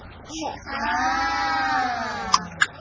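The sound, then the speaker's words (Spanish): A single drawn-out sheep bleat, loud, with a wavering, quavering tone lasting over a second, followed by two short sharp clicks at the end. “Oveja.”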